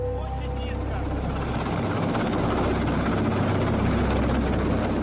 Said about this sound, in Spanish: Entonces, vimos como un helicóptero del gobierno descendía intencionadamente en el punto donde estaban las flores, para que el rotor y el viento lo tiraran todo.